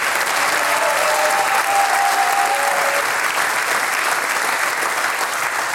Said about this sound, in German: Auch wenn der Chef der Partie ein Primar ist, bedanken wir uns nicht mit der IKAT, sondern mit einem kräftigen Applaus, nämlich beim ….